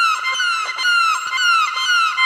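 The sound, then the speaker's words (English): A violin bow drawn across an acoustic guitar string squeals in a sustained, harmonic-rich tone with repeated short pitch dips, mimicking a chicken's clucking squawks. It is loud, with no voices. “Chicken.”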